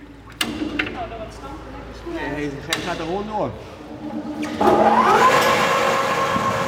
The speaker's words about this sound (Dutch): Het is even sjorren aan de pers, maar dan doet hij het ook. Ja. Dus de oogst van vanochtend kan meteen worden verwerkt? Ja, die wordt meteen geperst.